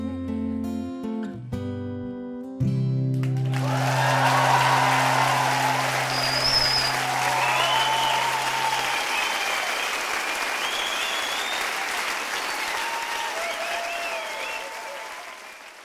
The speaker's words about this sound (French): Ces applaudissements n'étaient pas pour nous. Même si on peut penser qu'on les mérite, mais pas encore.